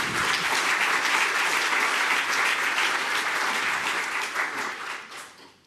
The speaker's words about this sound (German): Ja, ihr dürft gerne klatschen.